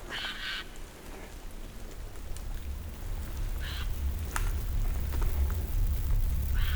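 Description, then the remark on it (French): A bird calls twice, a short raspy burst at the start and another a few seconds later, over steady low rumbling and patter like rain outdoors. “Un oiseau.”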